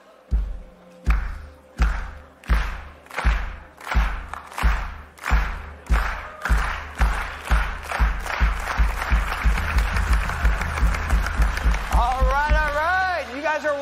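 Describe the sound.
A loud drum beat of deep, punchy thumps, played live on request at a Sunday morning gathering, that starts evenly spaced and gradually quickens into rapid hits, with a wavering voice-like tone joining near the end.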